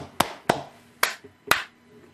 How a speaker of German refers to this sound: Mal schnell klatschen.